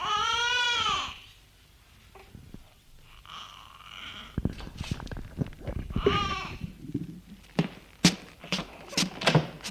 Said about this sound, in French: Il entend son fils qui pleure. Elle sort de la chambre pour aller le voir.